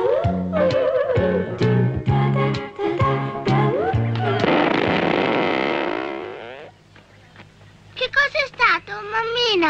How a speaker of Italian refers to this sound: Niente, è stato il cannone che annuncia mezzogiorno, tesoro.